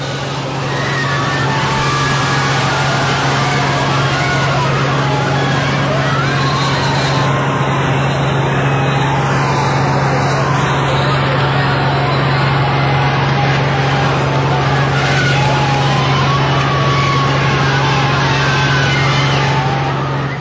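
A large crowd shouts and cheers continuously for Pope Francis as he steps out of his open car during his visit to Rio de Janeiro, many voices blending into a steady roar with scattered calls rising above it, alongside a low droning hum throughout.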